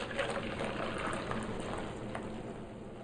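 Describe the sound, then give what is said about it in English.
Almost a full cup of water pours steadily into a paint mixture for dyeing fabric, a continuous splashing and gurgling that runs for a few seconds at an even level, with no one speaking. “The next part is to add in your water.”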